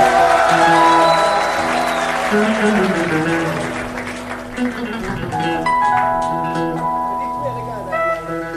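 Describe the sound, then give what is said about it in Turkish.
An audience applauds in a dense, steady patter of clapping layered over sustained musical tones, the clapping thinning after about four seconds while the tuneful, harmonic sound carries on. “Cun alkışlar gelsin.”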